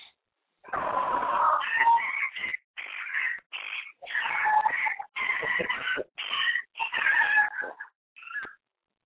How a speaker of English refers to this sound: Oh God, are they killing somebody? It always sounds like your dogs are on the attack. There's another dog outside walking by. Oh, okay. Yeah, I mean they sound so vicious when they go at it.